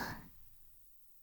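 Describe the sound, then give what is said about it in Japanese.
A single soft puff of a succubus's breath blown toward the listener, a brief airy whoosh that fades within a fraction of a second into near silence. “サキュバスの吐息を吸い込むと理性なんてすぐに消えちゃうんです。”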